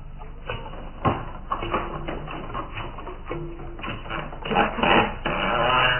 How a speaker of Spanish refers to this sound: El hombre increíble quita los pesados cerrojos y la gruesa tranca que cierra herméticamente la puerta.